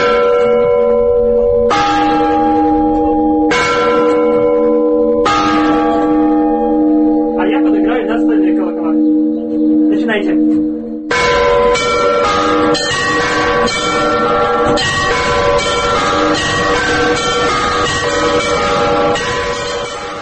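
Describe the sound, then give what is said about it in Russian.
Large church bells, the big ones rung by foot, ring loudly: a few slow deep strikes that swell and sustain before a denser, faster peal of many overlapping bells takes over and keeps going. “Послушать колокольный звон собираются люди.”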